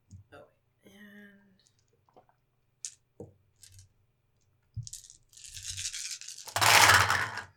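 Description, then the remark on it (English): Dice clatter as they're shaken and tumbled, with a few sharp clicks first and then a loud, dense rattle near the end; brief faint voices murmur at the start. “What is all that dice for? I dropped one back there.”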